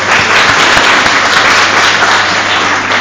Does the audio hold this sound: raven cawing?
no